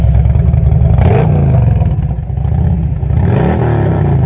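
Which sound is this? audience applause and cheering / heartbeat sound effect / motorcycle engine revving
motorcycle engine revving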